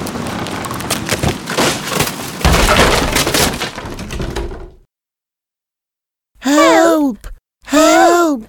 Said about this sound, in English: Then I'll huff, and I'll puff, and I'll blow your house down. Oh no! The wolf is blowing down the house.